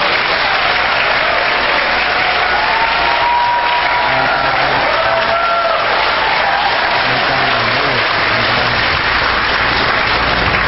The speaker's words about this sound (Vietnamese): Xin quý anh chị chào đón cha một tràng pháo tay nữa.